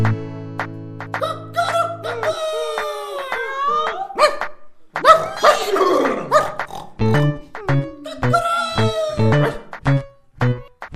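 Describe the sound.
A voice imitates animals in turn: yelping dog-like barks, a rough, drawn-out lion roar, then a run of rhythmic pig grunts, all loud and close, with a steady musical tone at the start.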